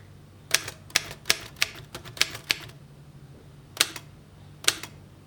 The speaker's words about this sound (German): Also, hier ist erstmal die Schreibmaschine. Ach, die Schreibmaschine. Die ist ja schön. Kann ich mal? Ja, bitte.